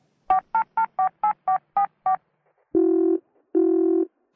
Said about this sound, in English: She makes some phone calls.